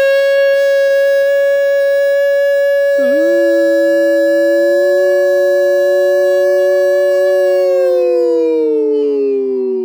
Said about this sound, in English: That was my tornado siren. I just had to throw it out. I mean, this is what happens in apartment living. You have your HVAC in a closet... Just like right in your hallway.